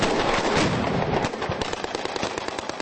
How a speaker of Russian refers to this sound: Во время показательных выступлений спецназа управления исполнения наказаний на плацу прогремел взрыв.